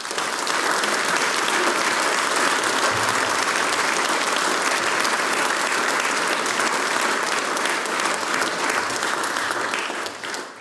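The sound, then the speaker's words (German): Sustained audience applause for the event's organizers, the municipality of Böllerberg with its mayor and deputy mayor, a dense steady wash of many hands clapping at an even loudness for about ten seconds before tapering slightly at the end, with no voices over it. “Der erste große Applaus gehört euch.”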